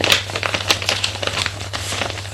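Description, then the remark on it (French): Paper rustling and crinkling as a person who has stopped writing shuffles, gathers and puts away sheets, with several quick crisp bursts over a steady low hum, no one speaking. “Jean-Denis s'arrête d'écrire et range ses papiers.”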